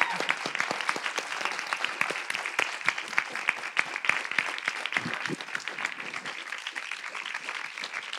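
Sustained audience applause for a singer at the end of an evening question-and-answer event, a dense crackle of many hands clapping at a steady, even level for several seconds, with a few faint voices mixed in underneath.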